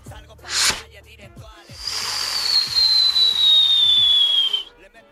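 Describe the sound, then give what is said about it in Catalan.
A voice mimics a castell de foc (fireworks display): a sharp hissing burst, then a long whistling hiss that slides slowly downward in pitch like a rocket, with low voiced rumbles and pops underneath. “Abans de marxar ràpid, ens pots imitar el Castelldefoc?”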